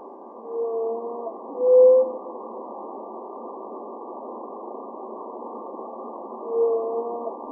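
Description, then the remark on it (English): Song of blue whales from a population in the Indian Ocean: low, drawn-out tonal moans in a few separate calls, with a long quiet stretch between them, set against a steady underwater hiss with no voices. “While it may be hard to wrap your head around the idea that the largest animals on Earth could be hiding, what's especially thrilling is that this population was discovered because of the unique songs they sing.”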